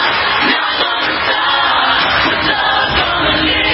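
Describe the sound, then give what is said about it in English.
A large crowd at the Grammys awards show clapping in a dense, continuous wash of applause, loud and steady throughout, with scattered shouts and whoops mixed into the noise. No one speaks. “They're just feeling the crowd clapping.”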